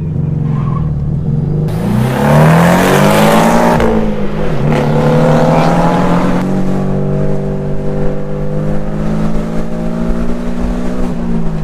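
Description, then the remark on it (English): A stock turbocharged car accelerates hard, its loud engine drone climbing in pitch with a rushing hiss, then dropping briefly before holding a steady, strong roar. No one speaks. “This is what the turbo does now? 11 turbos don't drive like that.”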